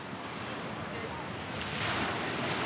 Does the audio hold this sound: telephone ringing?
no